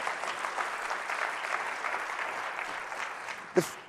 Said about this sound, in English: Just give me Jesus in it. Yeah. Come on, give me a hand clap. Give me Jesus in it.